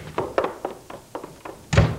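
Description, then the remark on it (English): A door being opened: a quick run of light wooden clunks and taps, then one heavier, louder thud at the end, with no voices. “Open the door.”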